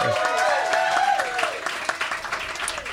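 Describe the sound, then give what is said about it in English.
An audience at a debate event cheers and whoops loudly on request while clapping fills the background, the noisy roar staying strong for a couple of seconds before easing off slightly as scattered claps continue. “So I decide alone who wins and loses, and you know, sometimes I'm right, and when I'm right, I would like for you guys to cheer. Give that a shot right now.”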